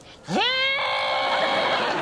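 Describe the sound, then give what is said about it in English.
A goat lets out one loud, drawn-out scream that rises sharply in pitch and then holds a strained, human-like wail for over a second, alone. “Are you seen no screaming goats on the internet?”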